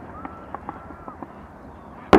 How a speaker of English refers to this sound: Who says wow in a fireworks display? Oh, I was saying wow because the shotgun's picking up the audio really well. Oh, okay. Yeah, it sounds great, man.